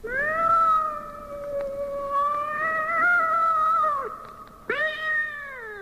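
A cat lets out a long, drawn-out meow that wavers for about four seconds, then a brief pause and a second rising yowl, loud with no talking.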